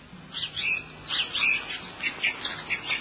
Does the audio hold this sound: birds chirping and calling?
yes